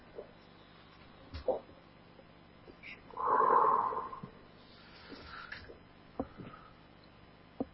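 A long, loud, airy exhale rushes out as a breathing exercise begins, followed by a softer breath, with scattered small clicks and quiet room noise around them and no talking.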